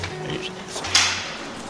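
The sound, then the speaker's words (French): A door is opened with a single short clunk and rattle partway through, over a steady low background hum with faint indistinct voices. “Parce que normalement, c'est 7h, l'ouverture des portes.”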